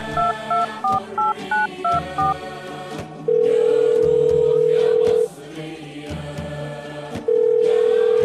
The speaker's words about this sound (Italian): con la mano libera afferra la cornetta del telefono e digita un numero a memoria.